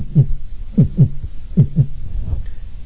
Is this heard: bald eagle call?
no